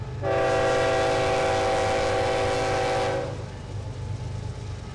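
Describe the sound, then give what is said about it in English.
A coal train rumbles past alongside a farm with a loud, sustained horn blast lasting about three seconds, then the horn cuts off while the heavy low rumble of the rail cars continues. “Today, coal trains run right alongside the farm 3 to 4 times per day, a striking reminder of the state's long history with extractive industries.”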